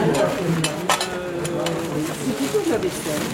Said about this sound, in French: C'est plutôt de la vaisselle.